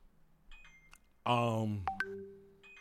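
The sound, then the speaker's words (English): A phone left with its sound on gives off a few faint electronic beeps, then a louder, buzzy tonal burst and a sustained chime-like tone, with no talking over them. “I leave my phone on like that just so you guys will think I'm popular.”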